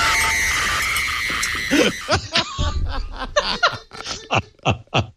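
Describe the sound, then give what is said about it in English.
A shrill, sustained scream from a played video lasts about two seconds, then gives way to a string of short, choppy bursts resembling laughter or snickering. “The cat, for those of you who are only listening, when you heard the scream, guess what the cat did?”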